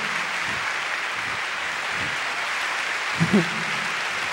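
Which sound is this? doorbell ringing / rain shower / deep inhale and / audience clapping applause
audience clapping applause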